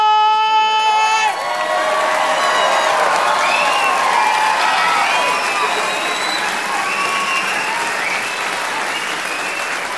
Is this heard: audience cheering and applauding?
yes